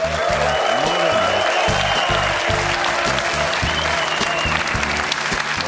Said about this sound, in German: Wenn er ballert, gibt es oft den größten Applaus und ich glaube, er ist heute in Ballerlaune. Mario Basler.